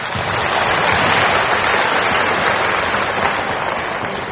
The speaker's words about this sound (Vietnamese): Nhưng mà trước hết là xin đại chúng cho em tràng pháo tay